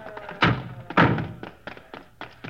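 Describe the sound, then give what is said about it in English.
The stuck door of a crashed car is tugged to get a trapped man out: two heavy thunks in quick succession, followed by several lighter knocks and rattles as it resists. “Hey, that door's stuck.”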